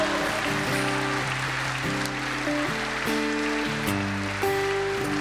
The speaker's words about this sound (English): So let's properly rejoice over this one person who comes to the Lord. Let's give the Lord a good applause and a shout. Amen.